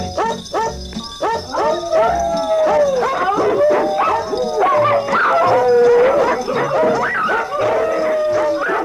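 Several dogs howl and bark together in a wavering, tune-like chorus as if singing, long drawn-out howls sliding up and down over quick yips, with a steady rhythmic thumping beneath, loud throughout.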